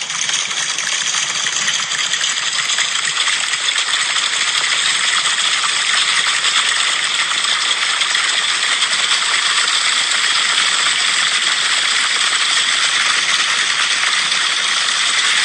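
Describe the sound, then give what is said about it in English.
A crowd, being conducted, rubs, pats and snaps their hands in unison to imitate rain, creating a steady, dense hiss of many tiny taps that sounds like a continuous downpour without any voices. “These are people being conducted to simulate rain.”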